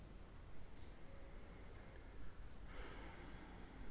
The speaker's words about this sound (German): Also such dir eine bequeme, aufrechte Position, in der du eine Weile bleiben kannst. Und beginne einfach bewusst zu atmen.